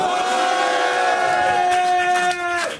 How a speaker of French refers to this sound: On va la refaire, il va vous dire bonjour et vous allez tous crier très très fort, d'accord? Vas-y, tu la refais s'il te plaît? Ça serait bien. Eh bien, bonjour au public.